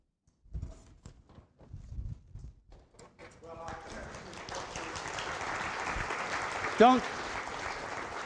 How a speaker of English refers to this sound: Don't clap, just throw money.